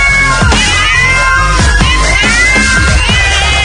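Several cats meow and yowl in a loud, continuous caterwaul, their wavering cries overlapping with no one speaking.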